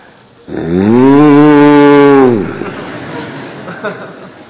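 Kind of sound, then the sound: animal, cows mooing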